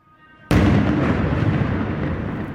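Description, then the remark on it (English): A sudden, loud explosive blast erupts after a brief quiet moment, followed by a heavy rolling rumble that slowly fades: explosions and gunfire rising from a refugee camp in Jenin, West Bank. “Explosions and gunfire rose from the refugee camp here.”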